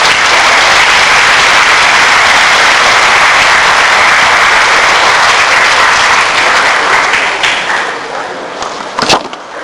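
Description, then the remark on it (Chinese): Loud, sustained applause from a large audience welcoming Fang Zhouzi to give a lecture on opposing academic corruption at Yuquan Road, steady for several seconds before tapering off, with a brief sharp knock near the end. “下面就请大家用热烈的掌声有请方老师做报告。”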